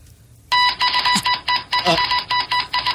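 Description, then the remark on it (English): A rapid string of loud, buzzy electronic beeps in Morse code, short and longer tones alternating in an irregular on-off rhythm at one steady mid pitch. “Sorry, it's Morse code.”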